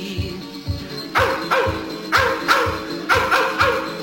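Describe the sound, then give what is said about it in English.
Hounds bark repeatedly in a steady, rhythmic series of loud woofs, about two per second, over a low thumping beat, with no talking. “The grass is dancing wildly in the meadows, to the tune of hounds a baying from afar.”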